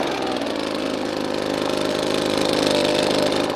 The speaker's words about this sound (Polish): Tu są też liście w środku. No tak, ale dmuchawą dosyć dobrze to się odwiewa. Zostaje nam czysty owoc.